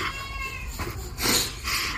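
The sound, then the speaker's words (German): A cat meows a few times in quick succession, moderately loud, with drawn-out, wavering cries and no talking over them. “Das klappt, wir machen noch ein Katzenvideo.”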